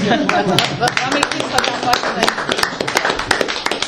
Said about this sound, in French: Non, non, mais vous pouviez continuer à applaudir.